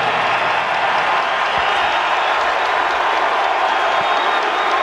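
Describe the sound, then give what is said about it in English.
A large stadium crowd roars and applauds in a dense, steady wash of noise, holding at the same loud level throughout with no clear individual voices or pauses. “Love the crowd.”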